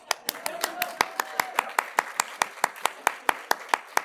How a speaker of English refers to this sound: We sang to God and we clap for God tonight.